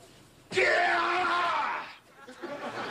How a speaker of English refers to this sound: Yeah! Oh, that was great. Was that a professional karate yell?